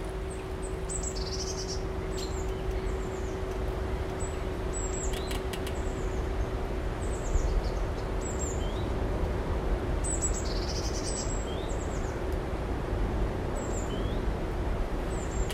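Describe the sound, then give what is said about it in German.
Several birds chirp and trill throughout, bright and busy, over a steady low mechanical hum and a faint rumbling background drone from Münster's sewage treatment plant near the Rieselfelder. “Inzwischen im Vogelzwitschern hören wir ein leises Brummen und beschließen, dass wir unseren Ohren folgen.”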